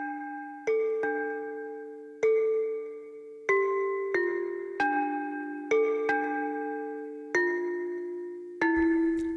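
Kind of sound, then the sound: signal or alarm, church bells ringing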